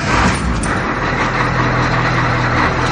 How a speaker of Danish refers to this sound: Alle er kommet ombord, og bussen starter med kurs mod parken.